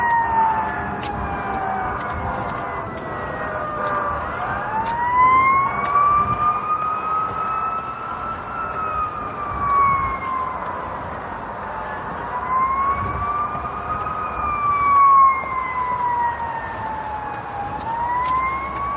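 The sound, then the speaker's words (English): A fire truck siren wails in long rising and falling sweeps, loud, on a still morning over a steady rumble of road traffic, with no one talking. “It's a fire truck right there.”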